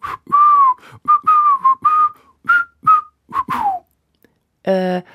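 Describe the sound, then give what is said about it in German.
A person whistles a short, bouncy tune, about a dozen clear notes with slight slides between them, followed by a pause and a brief voiced sound at the end. “Ja, magst du mal versuchen, unsere Ergebnisse nicht zusammen zu fassen, sondern zusammen zu pfeifen?”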